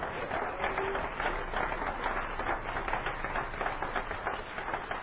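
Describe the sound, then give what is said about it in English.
An audience claps their hands for the Lord in a dense, continuous wash of applause that holds a steady loudness for about five seconds, with no voices standing out. “Let's clap our hands again for the Lord.”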